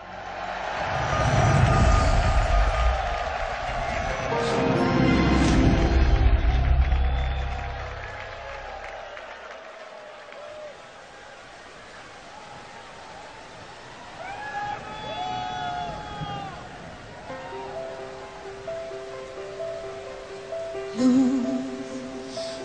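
A loud crowd roars and cheers at a live concert, then the noise settles as music begins, with sustained melodic tones and a voice rising over a soft, echoing hall ambience.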